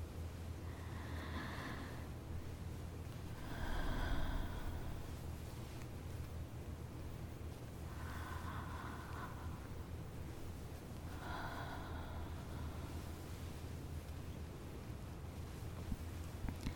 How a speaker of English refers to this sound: I know. I know it makes it hard to slow your breathing down. Just keep trying.